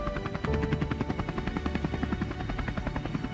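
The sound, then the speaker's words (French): A helicopter that has landed on the race track to take Ayrton Senna, carried on a stretcher, to hospital in Bologna; its rotor thumps steadily and loudly, its rapid rhythmic chopping continuous throughout, with a broad engine roar underneath and no voices. “Le Brésilien est transporté sur une civière vers l'hélicoptère qui s'est posé sur la piste.”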